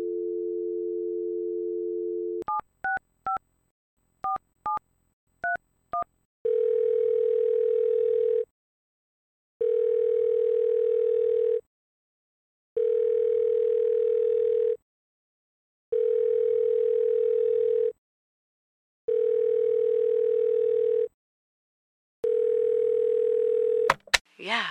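A steady dial tone gives way to a quick run of keypad beeps as a friend's number is dialed on a phone in a bedroom, then the line rings out in six long, even buzzing tones separated by short silences, with no talking.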